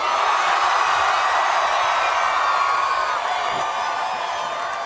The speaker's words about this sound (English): We're going to count the crowd in. They're going to cheer for you to clean up that schoolies room.